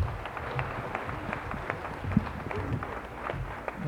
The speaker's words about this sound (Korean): 뜨거운 박수 부탁드립니다.